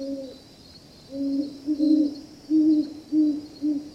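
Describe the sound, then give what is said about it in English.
A great horned owl in the northeastern U.S. hoots at night in a deep, mellow series of about six soft notes in a loose rhythm, heard clearly over a faint, steady high-pitched drone of night insects. “lately I've been entranced to hear a more unlikely sound, the call of the great horned owl.”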